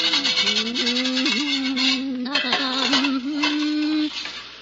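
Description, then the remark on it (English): Pots being scrubbed in a kitchen after the evening meal: a continuous rough, raspy scraping for about four seconds, with a steady low wavering tone running beneath it until the scrubbing stops. “As our story begins, we find Teresa busily at work in the kitchen, scrubbing some pots, the remnants of the evening meal.”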